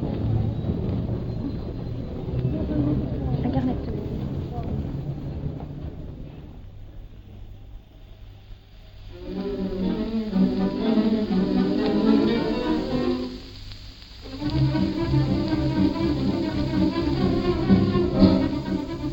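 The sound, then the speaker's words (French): Busy ambience of a Paris metro ticket hall at night: a steady low rumble with indistinct voices of travellers asking for their tickets, the chatter swelling louder partway through, then fading before rising again. “Après cette petite rétrospective des bruits familiers du métro de Paris, nous arrivons au moment crucial de ce parcours nocturne dans le souterrain.”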